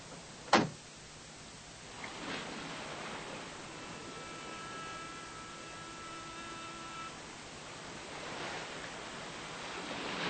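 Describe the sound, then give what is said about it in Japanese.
Steady hiss of sea surf on a shore, swelling into two louder washes of breaking waves, with a sharp knock near the start and a faint humming tone in the middle. “これが海ね。”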